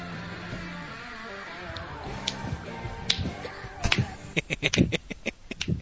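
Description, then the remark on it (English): A woman claps after a WrestleMania intro: a few sharp, scattered hand claps break out, then quicken into a brief uneven burst of about eight crisp claps over a low murmuring background. “Hey, I got her to clap.”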